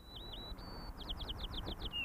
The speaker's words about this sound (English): Now, if you listen to this song of a male white-crowned sparrow, then you'll hear several things.